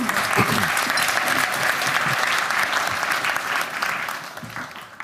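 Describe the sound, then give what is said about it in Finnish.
An audience applauds steadily for about five seconds, a dense wash of many hands clapping at even loudness, with a few faint voices murmuring underneath. “Kyllä me aplodit voitaisiin antaa.”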